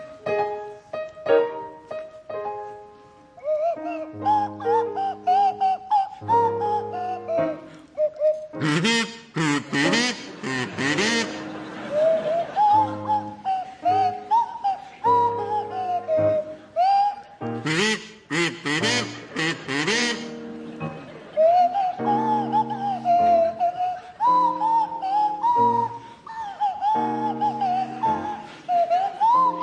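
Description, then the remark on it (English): A buzzy kazoo played by Jeremy Hardy and a sliding swanee whistle played by Tim Brooke-Taylor play a slow, wavering rendition of Titwillow together, fairly loud, with a couple of bursts of audience laughter breaking in midway. “Tim and Jeremy, you can start, and I'd like you to provide us with a rendition of Titwillow, featuring Jeremy Hardy on the kazoo and Tim Brooke-Taylor at the Swanee Whistle.”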